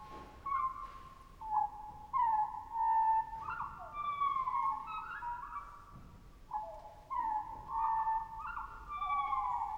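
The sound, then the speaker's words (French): Birds recorded at the Arctic Circle by the composer Rautavaara for his work Cantus Arcticus call repeatedly in a field recording: drawn-out, wavering whistles and sliding cries that overlap one another, with faint background hiss and no voices. “Un nom parfaitement approprié, puisque Rautavaara est allé jusqu'au cercle arctique pour enregistrer des oiseaux pour son œuvre.”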